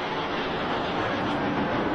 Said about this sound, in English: Royal Flight wins it for me. Absolutely. I do love the sound of those Merlin engines. They sound phenomenal. Absolutely phenomenal.